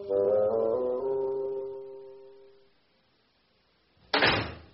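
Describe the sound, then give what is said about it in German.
A door creaks with a long, tonal squeal that fades out, followed after a brief pause by a firm shutting thud as the door is closed, with no voices. “Frage: Ist das die Tür oder das Fenster? Das ist die Tür.”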